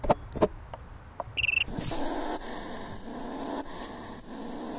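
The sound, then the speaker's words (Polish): A hedgehog huffs defensively: a few sharp ticks and snorts, then a steady run of raspy, breathy puffing with rough rhythmic pulses, moderately loud and with no voices. “Tak się broni jeż.”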